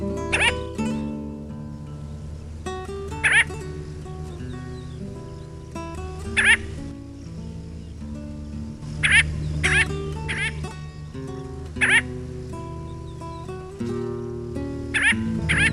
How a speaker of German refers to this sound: Das war die Lachseeschwalbe.